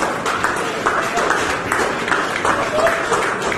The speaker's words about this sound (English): So they had like dozens. It looked like the entire hospital. Uh-huh. All lined up, wearing their masks, clapping and cheering for her as she's wheeled through the halls into the arms of her sobbing husband.